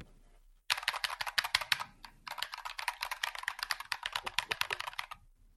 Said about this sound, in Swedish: Gissa mekaniska tangentbordet.